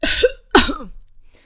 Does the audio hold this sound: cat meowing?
no